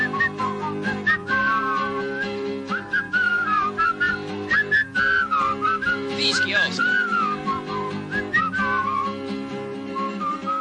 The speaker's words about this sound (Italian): Ma non sa le parole. Che vuol fare? Le parole. Le impapocchia, Altro che impapocchia. Lo scusi. Fischia.